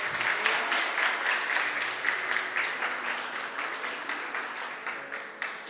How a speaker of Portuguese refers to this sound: Sente-se aplaudindo o Senhor.